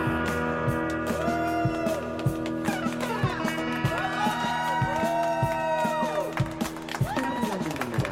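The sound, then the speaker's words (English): A large crowd cheers and whistles, the roar washing back in heavy echo, with scattered whoops and rising whistles over a dense, steady wall of noise. “Crowd noise.”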